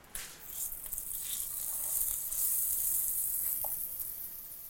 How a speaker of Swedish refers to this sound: Och det är ett härligt ljud alltså. Det är det. Stekljud.